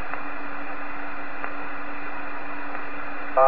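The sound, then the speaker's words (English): Steady, heavy radio static from an electrical storm hisses throughout with a low hum beneath and a few faint crackles at intervals, with no voices, before a brief louder burst at the very end. “Very heavy QR Nancy. I think we're having an electrical storm.”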